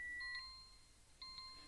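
An alarm clock rings in two short bursts of bright, high-pitched electronic tones about a second apart, fairly faint and heard alone with no talking.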